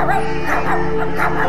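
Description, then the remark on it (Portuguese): Several quick barks and yips from shepherds' dogs in close succession, fairly loud, over a steady tonal background hum. “Juntou também os seus cachorros.”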